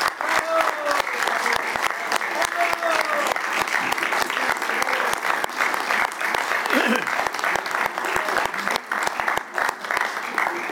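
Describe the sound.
A sustained round of applause from a crowd, dense steady clapping filling the whole clip at a fairly even loudness, with faint voices mixed underneath.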